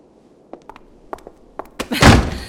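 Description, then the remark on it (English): A few light clicks and rattles of a handle and latch, then a door swings shut with a solid thud that fades quickly. No voices are heard. “Close the door, won't you?”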